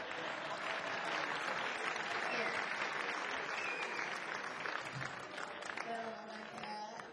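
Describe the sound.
A sustained round of applause, dense steady clapping from a crowd lasting about seven seconds, with a few faint voices and brief tonal sounds mixed in near the end.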